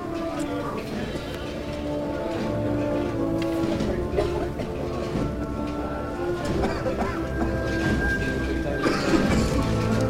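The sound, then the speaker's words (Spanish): Metallic clinking and jingling of the bambalina and varales (canopy poles) of a Semana Santa procession float on a Friday in La O, on Calle Castilla in Triana, rattles in irregular bursts over a dense, steady bed of sustained tones and crowd murmur, at a moderate, even loudness throughout. “Sonido metálico de la bambalina, de los varales, al alcance ya del micrófono de Canal Sur Radio, el llamador de la Semana Santa, viernes, en la O, en la calle Castilla, en Triana.”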